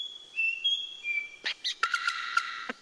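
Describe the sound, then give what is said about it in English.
A male bird mimics the songs of forest birds for a female: a clear, sustained whistle stepping between pitches, then a quick run of sharp chirps and clicking notes, fairly loud with no talking. “First up, the songs of forest birds.”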